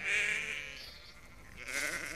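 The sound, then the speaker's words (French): Sheep bleat on the Greek island of Euboea, one long wavering cry followed after a short pause by another, the quivering calls sounding over a quiet outdoor background with no talking. “Des moutons, hein, tout simplement.”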